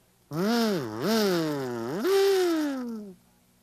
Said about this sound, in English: Do you remember this kazoo? Remember the day I got this kazoo? Well, I was just thinking about how it vibrates.